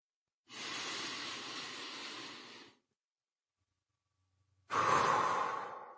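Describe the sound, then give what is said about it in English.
A long, steady deep breath drawn in, a brief pause of silence, then a forceful, airy exhale that slowly fades out. No one speaks. “That said, please take a deep breath and then let it out.”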